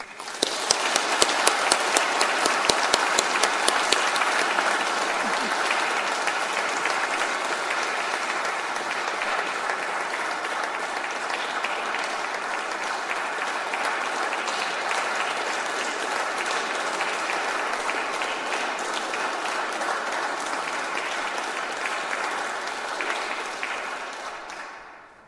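Sustained audience applause from a large crowd, a dense steady patter of many hands clapping for about twenty-five seconds, loudest at the start and tapering off at the very end.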